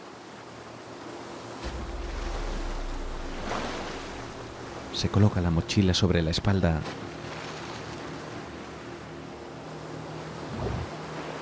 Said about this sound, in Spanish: Mira hacia arriba a los escarpados picos del precipicio. Las olas cubren los salientes más bajos y la pared es demasiado empinada.